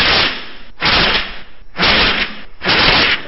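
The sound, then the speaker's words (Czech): Three long, loud bursts of rushing breath with a rough, fluttery hiss as someone blows between two sheets of paper held together, trying to blow them apart, separated by brief pauses. No one speaks. “Mám tady dva listy papíru, takhle vemu k sobě a budu se snažit je od sebe odfouknout.”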